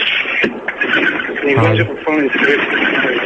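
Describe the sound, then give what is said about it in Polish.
A loud, steady rumble of bus noise comes through a thin, muffled phone line without letup, from a caller who is at work driving a bus at that moment, with a voice briefly audible beneath the roar. “No właśnie taki szum, bo jestem w pracy, jeżdżę autobusem właśnie w tej chwili”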